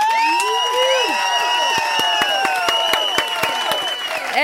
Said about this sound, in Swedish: En till applåd. Jag vill ha en till.